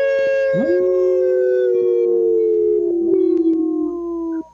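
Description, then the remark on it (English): A group of people howl together in imitation of wolves, for a show segment presented by Howling for Wolves: long, sustained, overlapping voices that swoop up then hold steady and gradually sink in pitch before cutting off. “Thanks so much for howling.”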